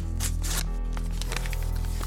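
A sound effect of crisp rustling and tearing of paper, like envelopes being torn open and letters shuffled, in a few quick bursts over a steady low background hum.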